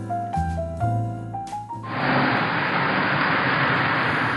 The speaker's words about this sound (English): As I walked out to hail a taxi, a car pulled up to the curb.